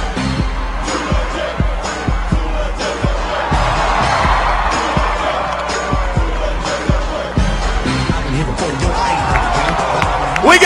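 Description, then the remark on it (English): A crowd at a dance-off roars and cheers steadily, with scattered claps and sharp thumps punctuating the din throughout, and a mix of voices shouting underneath. “Hey, a lot of hype coming right here in the crowd.”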